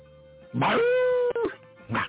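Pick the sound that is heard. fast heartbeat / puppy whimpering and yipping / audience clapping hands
puppy whimpering and yipping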